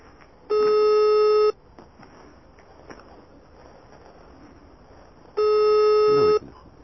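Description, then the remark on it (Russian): A phone call ringing out unanswered: two steady, buzzy ringback tones about a second long, separated by a few seconds of quiet room noise, heard through the line. “Не, Николай Юрьевич не отвечает.”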